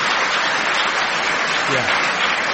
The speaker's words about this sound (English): Applause for that.